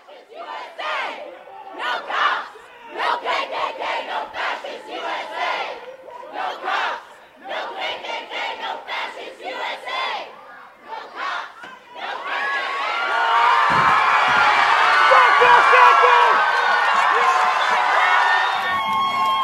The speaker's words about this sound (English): you can hear some of the sound of the chants in this crowd around this Confederate soldier statue, and then the cheering that goes on once it's toppled.